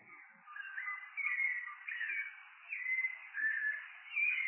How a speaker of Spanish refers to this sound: Bueno, ahí tenemos el zorzal, que bueno, es una de las aves que tiene más variado, más variado canto, ¿no? Más lindo. Ahora en primavera pueden cantar por horas, ¿no? Sin parar, los machos para tratar de atraer a las hembras.